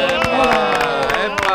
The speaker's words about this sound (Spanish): Un aplauso para Julieta, una ¡vamos! Futura rapera.